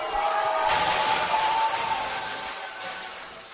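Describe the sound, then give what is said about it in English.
A large crowd at NXT roars in reaction to wrestler Eva Marie, a loud, sustained wash of mixed voices with no single speaker, holding steady for a few seconds before tapering off slightly toward the end. “She handled the crowd reaction to her very, very well.”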